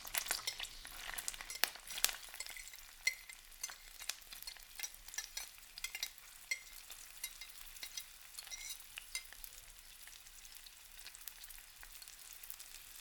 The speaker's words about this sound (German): Mit einem Holzlöffel wende ich die Zwiebeln in der Pfanne. Ich rühre mit dem Holzlöffel die Zwiebeln unter.